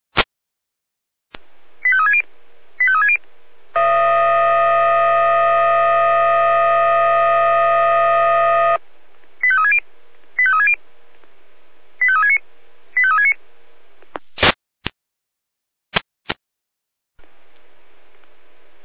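Radio paging tones from the Jena dispatch centre alarming the Orlamünde fire brigade, sent again because the siren did not receive the first alarm: short bursts of paired beeps, then a long steady multi-tone signal, more tone bursts, and sharp clicks of radio static, loud and with no talking.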